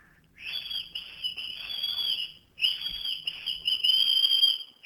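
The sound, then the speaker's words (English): A woman whistles one sustained, slightly wavering, bird-like note, pausing briefly midway before resuming the same pitch; the whistle is fairly loud and breathy, with no talking. “you need to whistle”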